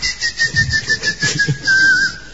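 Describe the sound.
A person whistles a steady, slightly wavering high tone for a couple of seconds, imitating a boyero's whistle, with soft breathy pulses and low rumbles underneath.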